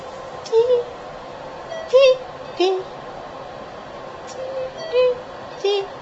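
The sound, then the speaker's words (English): A chemotherapy infusion pump in a hospital beeps repeatedly at the end of a chemo course: short, mid-pitched electronic tones recurring every second or so over a steady background hum, with no one speaking. “My 5 days of chemo are over. You hear that beep?”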